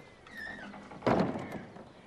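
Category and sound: household object, door being shut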